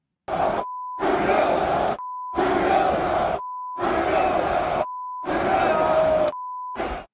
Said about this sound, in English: Here's a bit more of the crowd chanting F Trudeau.